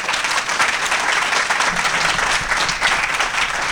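An audience applauds a speaker's talk steadily, a dense, loud wash of many hands clapping at once with no gaps, holding an even level throughout with no voices standing out.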